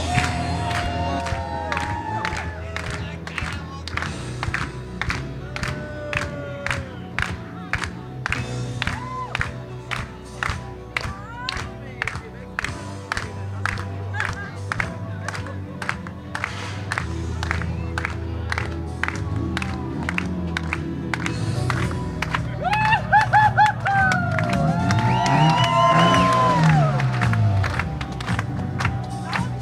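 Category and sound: crowd, audience applause and cheering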